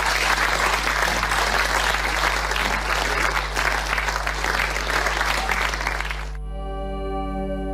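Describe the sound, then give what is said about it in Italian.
A large audience applauds steadily for the Pope, a dense wash of clapping for about six seconds that cuts off abruptly, leaving a low steady hum and faint tonal ringing. “Quindi ecco, l'ultimo applauso che facciamo lo facciamo per il Santo Padre.”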